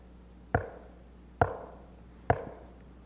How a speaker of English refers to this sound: And He knocks. And it's just not a quick knock. That word knock in that verse is a what they call a continual verb. He knocks.